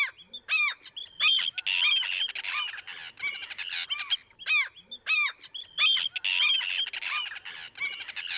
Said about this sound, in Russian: И, кстати, для контраста хочу поставить голос сизой чайки. Причем он очень узнаваемый, и когда особенно кто-то или вы кормите чаек, подкармливаете, вот слышен именно этот голос сизой чайки.